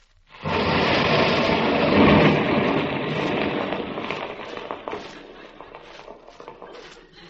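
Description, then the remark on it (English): A loud explosive blast from a fuse-lit charge blowing open a safe bursts in suddenly, then rolls into a long, roaring rumble with crackling, clattering debris that gradually fades over several seconds. No voices are heard. “Butch, it will make a big bang? No, it's just a little shot.”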